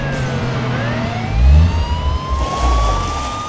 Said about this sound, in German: Plötzlich blitzten durchs Fenster rote und blaue Lichter. Reifen quietschten und eine Polizeisirene war zu hören.